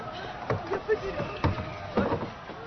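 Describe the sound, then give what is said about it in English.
Oars are hauled into a rowboat with a few irregular wooden knocks and clunks against the hull, while muffled voices murmur faintly underneath. “Now bring in your oars over there. And tie these two boats together as well.”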